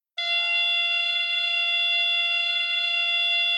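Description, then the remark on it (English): A loud, steady electronic buzzing tone from a beep baseball base starts abruptly and holds without a break, harsh and rich in high overtones, with no voices. The base is a padded cylinder about 4 feet tall with a speaker inside, switched on by a base operator after the batter hits the ball. “As soon as it starts buzzing, they run toward that sound.”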